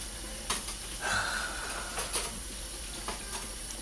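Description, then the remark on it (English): Dishes, cups and cutlery being washed: scattered soft clinks and knocks of crockery at irregular intervals, with a brief ringing tone and a steady faint background hiss, fairly quiet and with no voices. “See, look at all the dishes we messed up. That's why I'm cleaning them, and I'm taking my time now, just to bug you.”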